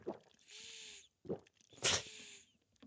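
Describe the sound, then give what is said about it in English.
Someone sips water in short wet slurps, drawing a breathy, slightly whistling inhale between each sip. Three sips alternate with two airy breaths at moderate loudness, with no talking. “Sounds like you're inhaling in between each sip.”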